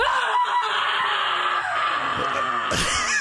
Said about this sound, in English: You learned in the last 3 minutes and 56 seconds how to do a primal scream to release stress.